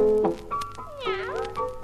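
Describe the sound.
A voice sings two drawn-out, sliding meows in imitation of a cat in a Russian-language song, fairly loud, with a soft musical backing underneath.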